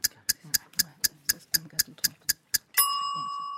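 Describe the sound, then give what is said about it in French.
A small timer ticks in a quick, steady rhythm, about eleven sharp clicks at roughly four per second, then a bright, high ringing chime sounds and slowly fades. It times 15 seconds for answers in a Comté cheese tasting quiz. “Petit minuteur.”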